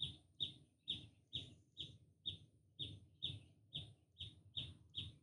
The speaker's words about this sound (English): Do you hear that bird? That is non-thinking, clear, present awareness. Listen to that bird.